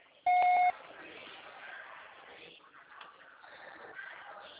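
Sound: voicemail recording beep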